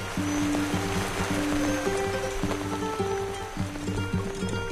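Steady rain hisses continuously throughout the night in the jungle, with a low, droning tonal hum shifting underneath it. No one speaks.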